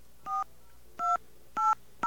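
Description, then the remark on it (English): A local telephone number being dialed on a phone line: four short touch-tone beeps, each a pair of steady tones, pressed at an uneven, quick pace with no voices. “And we're going to call the local number.”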